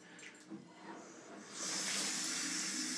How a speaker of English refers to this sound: Now, you hear the water. That is running in the bath.